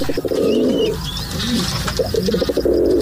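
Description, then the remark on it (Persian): Pigeons coo in low, throaty, rolling phrases that repeat steadily, while faint, thin chirps from smaller birds drift in higher up in the background. “مدت‌های طولانی نیست که ما می‌دونیم که پرنده‌ها میتونن مسیرهای خودشون، به خصوص کبوترها میتونن که مسیرهای مشخصی رو یاد بگیرن، از جمله کبوترهای نامرسان از دوران قدیم مورد استفاده قرار می‌گرفتن به روش‌های مختلف.”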